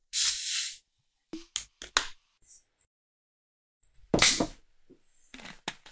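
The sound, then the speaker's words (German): A soft drink is poured into a glass: a burst of fizzy hissing, a few sharp clicks and taps, then a second rushing pour with crackling bubbles and more light clinks. No one speaks. “Also, ich gieße es mal ein.”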